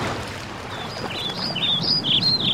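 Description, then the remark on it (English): Birds sing in a series of bright, warbling chirps on Karen Island, Yanini Downs, over a steady wash of water or wind noise, growing more frequent and a little louder toward the end. “The history of Karen Island is based on so many things, like the beautiful crystal sea and the bird that sing.”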